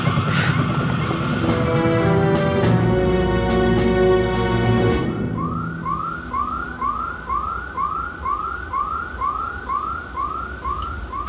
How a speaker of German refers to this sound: Ich nehme nicht an, dass es das Telefon ist. Verdammt, die haben Alarm ausgelöst.